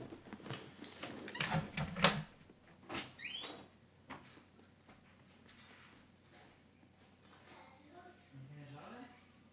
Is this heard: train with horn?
no